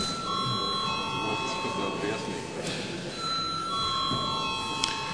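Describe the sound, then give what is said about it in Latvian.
A parliamentary voting bell rings steadily for about five seconds before a vote on a bill in its second reading, a continuous bright electric tone with low murmuring voices and faint room noise underneath. “Lūdzu atbalstīt komisijas vārdā likumprojektu otrajā lasījumā. Paldies, lūdzu zvanu.”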